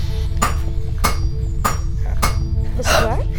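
A hammer strikes the glowing-hot, softened steel of a small sword blade being forged, four times in a steady, even rhythm. Each blow is a sharp metallic clang with a ringing tone, followed by a rougher, longer clang over a constant low hum.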